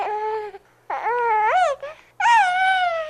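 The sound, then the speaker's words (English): A baby whimpers and cries in three loud bursts with short gaps between them, the wails rising and wavering in pitch. No one speaks over it. “Yeah, babies.”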